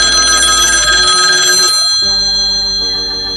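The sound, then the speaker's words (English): A telephone bell rings loudly in a rapid, metallic trill for under two seconds as a call comes in to the Bangor Fire Department, then cuts off, leaving a quieter low hum and a fainter second burst of ringing. “Effie places a desperate phone call to the Bangor Fire Department when we”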